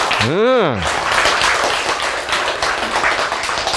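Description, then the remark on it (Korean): An audience breaks into steady, dense clapping for God, the giver of the breath of life, continuing for about three seconds, preceded by a short voiced exclamation that rises and falls in pitch. “생기를 주시는 생기의 주인이신 분에게 박수를 쳐야지.”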